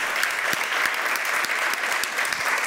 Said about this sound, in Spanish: Gracias por conectarse y especialmente todas aquellas personas que nos acompañan esta noche aquí presencial en el Powerhouse de Alfa Omega. Quiero que se dé un gran aplauso por estar con nosotros en esta noche.